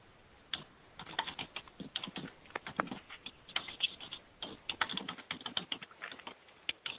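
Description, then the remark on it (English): Rapid, irregular clacking of keys on a computer keyboard, fairly soft, with bursts of quick keystrokes and brief pauses, no voices. “For the typing, I gather Michael is typing this. Yes, I'm typing it up.”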